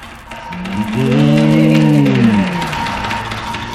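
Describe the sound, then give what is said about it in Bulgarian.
A single long, deep lowing of oxen swells and fades over about two seconds, loud, against a steady background hiss with no talking. “Слуги, изпратете всичките ми коне и волове срещу петела да го накарат да млъкне, да млъкне този петел.”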